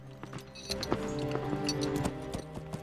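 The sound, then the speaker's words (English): A white horse's hooves clip-clop in a steady walking rhythm of sharp, regular knocks as it arrives outside Nottingham town's walls, over a sustained musical backdrop with low, droning tones. “Marion arrives outside Nottingham Town's walls on a white horse”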